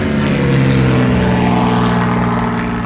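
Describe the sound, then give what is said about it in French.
A propeller airplane drones loudly and steadily at the aerodrome of Bressoncourt, the Jura aerodrome in Switzerland. Its engine hum holds strong before easing slightly toward the end, with no voices present. “La deuxième chose célèbre de Bressoncourt est son aérodrome.”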